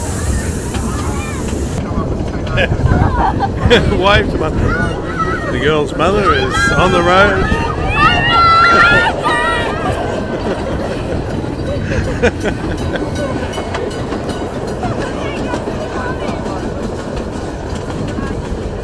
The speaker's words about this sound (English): And we're off. We're halfway along the track to Emerald Lake. So we're going from Menzies Creek to Emerald Lake, and that was about a 15-minute journey, I think. All this gorgeous old rattling train.